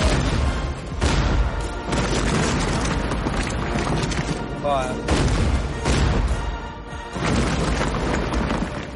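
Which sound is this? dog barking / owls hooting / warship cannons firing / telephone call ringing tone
warship cannons firing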